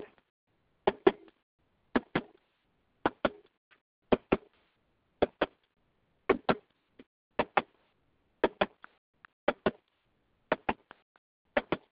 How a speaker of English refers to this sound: So what I'd like you guys to do is just clap with me, in tune with the clap, with the tapping, okay?